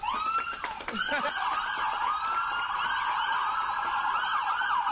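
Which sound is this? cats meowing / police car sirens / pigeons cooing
police car sirens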